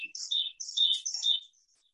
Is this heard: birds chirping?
yes